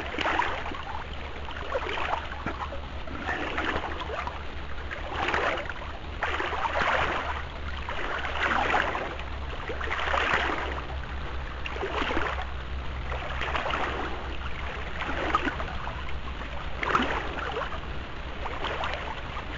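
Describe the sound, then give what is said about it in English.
A small boat moves along a river, manoeuvring to the sunnier right side, with regular swishing splashes of paddle strokes roughly every couple of seconds over a low, steady rumble and flowing water. No one speaks. “and manoeuvring to the right side of the river as it's in the sun more.”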